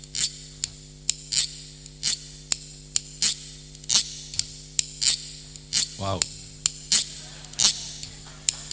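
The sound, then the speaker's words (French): Knives, forks and other cutlery clatter in a kitchen in a steady, rhythmic beat of sharp metallic clinks, fairly loud, with a brief voiced sound cutting in midway. “On arrive dans la cuisine, on ouvre le frigo, les placards, et c'est parti pour un grand concert de couteaux, de fourchettes et de couverts en tout genre.”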